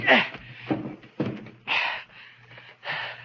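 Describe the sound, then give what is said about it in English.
Heavy furniture is shoved and stacked against a door: a series of five loud thumps and scraping knocks with short gaps between, over a faint steady hum, with no one speaking. “So I piled furniture against the door.”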